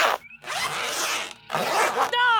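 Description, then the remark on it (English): Trouser zippers being zipped up, loud: a quick short pull, then two long rasping zips in quick succession, ending in a brief squeaky tonal sound. “Everyone zip up and shut up!”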